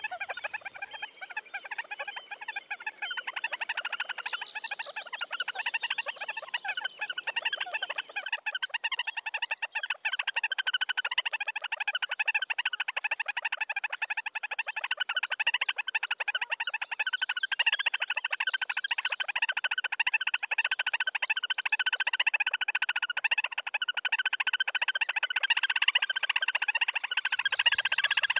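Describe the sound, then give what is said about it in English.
A loud, continuous bird mating call building to a crescendo before mating, one bird on a platform and the other sitting nearby, reaching a climax as the bird mounts; dense, rapidly pulsing harsh notes, sustained without pause at a steady high intensity, with no voices present. “The call reaches a climax as the bird mounts, whereupon an extremely quiet exchange of calls is heard before the top bird, oddly male or female, jumps into the water.”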